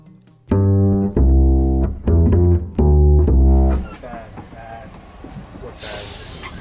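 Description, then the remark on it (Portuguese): Ride aboard a tram in Porto, Portugal, from Carmo to Batalha: four loud tonal blasts in quick succession, then a low rumbling ride with a sharp burst of hissing air near the end. “oferecem-te, ao ouvido, uma viagem pelo elétrico portuense”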